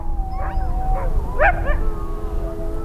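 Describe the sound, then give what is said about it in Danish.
Sled dogs whine and whimper with high, drawn-out tones, broken by a few short yipping barks near the middle, all over a steady low background rumble. “og så parkere hundene og give dem ordre på, at de bare skal lægge sig og vente.”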